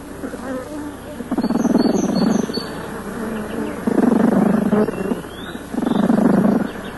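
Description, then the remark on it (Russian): Honeybees buzz a low, droning signal in three loud pulses, each lasting about a second, signalling flowering honey plants half a kilometre away, with a quieter hum of the hive continuing between them. No one speaks. “Вот, кстати, какой сигнал подают пчелы, если до цветущих медоносов полкилометра.”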